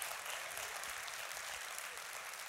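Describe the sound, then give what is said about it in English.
Sustained applause from a crowd of about 200 people, steady and dense clapping at an even, loud level with no voices standing out. “And if you're wrestling with that faith, I want you to hear the eruption of applause by 200 people that is your story.”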